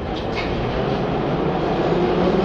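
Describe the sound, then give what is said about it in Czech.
A Prague metro train rumbles steadily as it pulls away from Kačerov station on the metro's opening day, a dense low mechanical roar with faint higher whines near the start, loud throughout. “Vlak se rozjíždí.”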